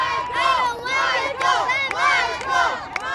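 Hundreds of Michael Jackson fans outside Forest Lawn Cemetery, under a full moon, scream out his name as his motorcade drives by. They scream and shout together in loud, surging waves, many high-pitched voices rising and falling in repeated swells without a break.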